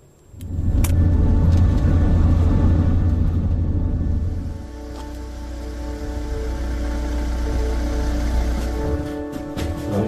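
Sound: police car driving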